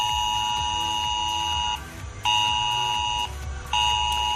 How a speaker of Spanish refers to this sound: Así te ha sonado el teléfono móvil entre las 10:30 de la mañana, 11, si estabas en la zona oeste de Gijón. La verdad es que si no te lo esperas, te llevas un susto importante, pero no ha pasado nada grave.